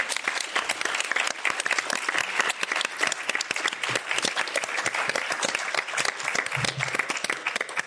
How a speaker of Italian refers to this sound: Quindi diciamo un addio a Francesco Nuti, un applauso.